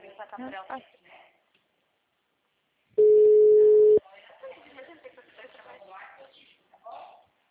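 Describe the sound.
A steady, loud telephone tone during a phone call sounds for about a second at one even mid-low pitch, cutting off abruptly, with people talking before and after it.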